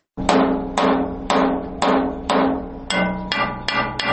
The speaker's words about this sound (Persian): این صدای چکش ضیاءالرحمن یکی از کارگران افغان است که از صبح تا شب مصروف آهنگری در شهر کابل است.